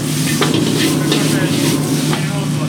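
Steady, dense sizzling of chicken, tomatoes, napa cabbage, mushroom and lots of garlic frying in a hot pan for hand-cut pearl chow mein, fairly loud, with brief scraping clatters as it's stirred and a low hum underneath.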